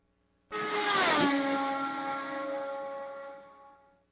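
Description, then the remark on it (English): A race car engine screams past at high revs on a qualifying lap, a sharp pitch drop marking the pass as it roars by, then fades steadily over a few seconds. “Wait till he gets in traffic. It won't be doing that.”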